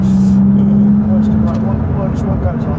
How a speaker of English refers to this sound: Engine sounds very different to some of the other vehicles we've driven today, which has the same engine. Yeah. Loads more turbo whistle, a bit gruntier, less kind of tinny.